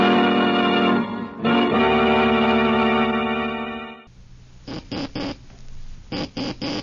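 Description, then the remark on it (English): A simulation of the Morse code letter S, the first signal sent across the Atlantic by wireless telegraphy by Guglielmo Marconi in 1901, tapped out as short electronic beeps: two groups of three quick dits, crisp and evenly spaced, following a sustained droning chord that fades out. “Those sounds, ladies and gentlemen, were a simulation of the letter S in Morse code, which were the first sounds to be transmitted across the Atlantic Ocean by wireless telegraphy by the late Senator Guglielmo Marconi.”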